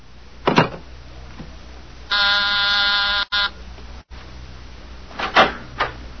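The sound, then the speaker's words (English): A harsh electric call buzzer, pressed to summon someone, drones steadily for just over a second, rich in rasping overtones, set between a couple of dull clunks and soft rustling; no voices are heard. “You buzzed, Mr.”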